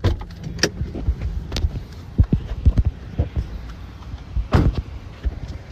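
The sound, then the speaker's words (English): Someone scrambles out of a car to go up to Julio Jones in Nashville: a few sharp thumps and a door-like knock, then quick, uneven footsteps tapping on pavement over low traffic rumble, with no talking. “This is this is me jumping out of the car and going up to Julio Jones.”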